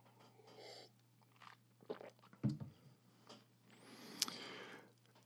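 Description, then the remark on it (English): Someone sips water: soft slurps and swallows, a muffled thump around the middle, and a sharp little click near the end, with no talking. “I'm going to have a sip of water after that one.”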